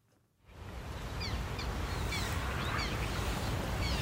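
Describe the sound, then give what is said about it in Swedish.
Several thin, whiny calls of black terns ring out at Kristianstads Vattenrike over a steady outdoor background hiss, repeating irregularly with short gaps between them. “Om man hör det här gnälliga lätet så är det dags att kolla uppåt.”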